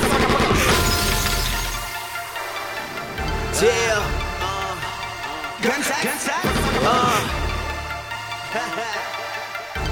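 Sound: gunshot sound effect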